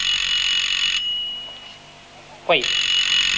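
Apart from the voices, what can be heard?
mobile phone ringing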